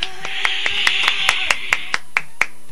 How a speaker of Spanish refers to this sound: ¡Un aplauso para ella!